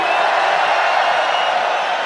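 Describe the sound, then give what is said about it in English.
A huge festival crowd raises their hands and screams together on a count of three, in a loud, sustained roar of many voices that holds steady for the full couple of seconds without a break. “On the count of three, raise your hands and scream Tomorrowland.”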